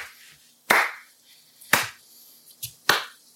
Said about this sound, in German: Mal beim Schneiden ein bisschen gucken, dass das passt. Mit diesen zwei Sachen. Ja, ich klatsch nochmal, dann ist es vielleicht einfacher.